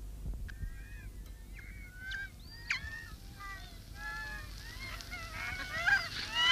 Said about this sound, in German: Ich hasse die Möwen,